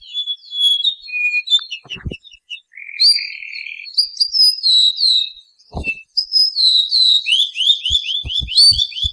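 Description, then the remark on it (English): A male ʻōʻū, a bird of Hawaii, sings clear, high whistled notes, then finishes with a rapid run of downward-sliding notes forming a trill, loud, with a few soft low thumps underneath. “The sweet, clear song of the male was a people's favorite, and it begins with a few distinctive whistled notes and ends with a series of downward notes known as a trill.”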